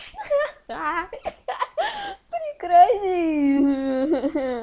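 A young child whimpers and cries in short, breathy wavering bursts that stretch into a sustained, high-pitched wail near the end.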